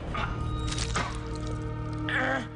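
A wet squelching stab as a woman stabs a man in the stomach in a kitchen. A few squishy bursts spread over a couple of seconds above a steady low hum, the last one slurping and drawn out.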